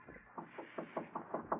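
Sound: knocking on a door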